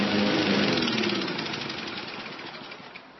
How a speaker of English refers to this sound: 1 gallon of fuel in a lawnmower will mow about half your backyard.